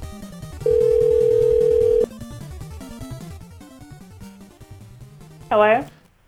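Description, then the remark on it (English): A loud, steady telephone busy tone, heard when calling back a number on AT&T local phone service, holds for just over a second, standing out above busy background music, followed later by a brief warbling electronic chirp. “I'm trying to call back and it's busy.”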